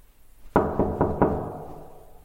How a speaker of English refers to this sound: Oh, and this is the sound of me, leaving my apartment to go and knock on his door.